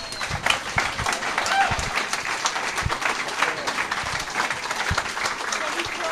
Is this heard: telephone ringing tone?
no